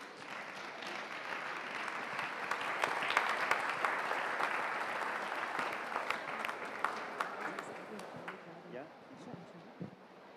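An audience claps steadily for about ten seconds, a dense wash of many hands that swells in the middle and then thins out toward the end, with scattered louder individual claps.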